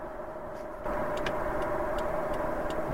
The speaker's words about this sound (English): you hear my blinker going off right now as I'm getting pulled over